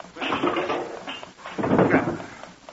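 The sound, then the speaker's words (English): A wooden drawer slides open with a rough scraping rattle, followed by a second louder bout of clattering and shuffling as a noisy clock is pulled out. “I take it out of that drawer.”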